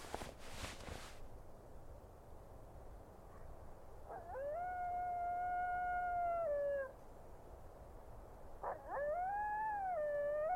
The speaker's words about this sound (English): Man, listening to the coyotes sent a shiver down my spine. They never bothered us, but hearing the howling was freaky. It reminded me of old-school horror films.